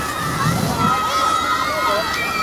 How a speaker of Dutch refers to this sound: De strijd is om zo snel mogelijk een skippiebal naar de overkant van het kanaal te spuiten. Er wordt de skippiebal te water gelaten.